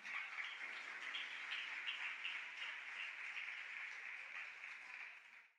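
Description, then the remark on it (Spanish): Sustained applause from a crowd applauding the Lord on a morning, a dense, steady wash of many hands clapping at once for several seconds before tapering off at the end, with no voices over it. “Démosle un aplauso al Señor, por favor, en esta hermosa mañana.”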